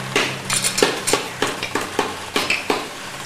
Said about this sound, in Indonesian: Lihat, lihat anakku. Bagaimana caranya memukul paku? Lihat, lihat.